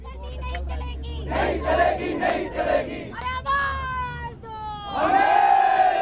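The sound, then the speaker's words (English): A large crowd of protesters from radical left and Muslim organizations shouts slogans in unison supporting Iraqi guerrilla resistance, loud, with rhythmic bursts of massed voices rising and falling over about six seconds, ending in a sustained collective yell. “They shouted slogans supporting Iraqi guerrilla resistance.”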